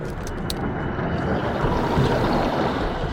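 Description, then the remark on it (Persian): A large suction pump roars steadily, extracting a very large volume of water through a pipe with a constant, loud, rushing rumble alongside motor noise and a few brief clanks near the start; no voices. “انگار یه جاروبرقی داره آب از یه لوله خارج میکنه، ولی بزرگه.”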